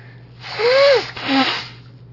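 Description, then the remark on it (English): A single loud allergy sneeze, probably triggered while outside shopping, comes in two parts: a rising, voiced intake followed by a breathy, explosive burst, over a faint steady hum with no talking. “Yeah, I was just outside shopping, and probably that my allergies got triggered a little bit.”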